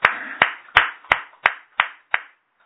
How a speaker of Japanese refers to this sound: 56歳の誕生日を迎えられましたので、盛大な拍手でお祝いをします。